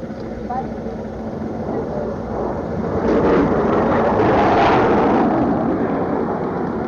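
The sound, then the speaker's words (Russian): A deep, rumbling roar of four fighter jets flying in parade formation over a memorial at the end of a ceremony, already loud at the start and swelling to a sustained, powerful peak in the second half before easing slightly. “Под конец торжественной церемонии к восторгу собравшихся 4 истребителя в парадном строю совершили демонстрационный полет над мемориалом.”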